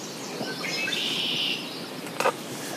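Red-winged blackbirds call close by in the grass along the riverbank of the Missisquoi River as the sun climbs, one giving a buzzy, drawn-out trill lasting about a second, followed by a sharp, brief chirp, with no one talking.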